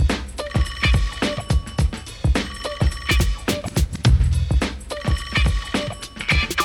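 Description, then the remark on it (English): A car phone rings in repeated bursts over a steady, thumping rhythmic backing, fairly loud, with no one speaking. “But then I got it, call the car phone.”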